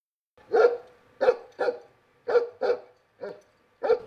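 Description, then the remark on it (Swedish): A dog-bark alert from a prototype smart cane sounds seven times in short, evenly spaced bursts, loud, with brief silences between each bark and no talking. It warns of dog faeces on the street ahead. “här hör vi ett ljud ifrån din käpp här. Det är ett hundskall.”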